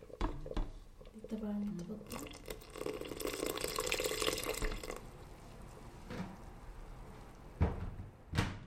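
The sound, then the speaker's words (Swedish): A little water pours steadily for a few seconds into a pot of simmering yogurt sauce, moderately loud, with kitchen clatter and knocks before and after. “Det kommer lite vatten.”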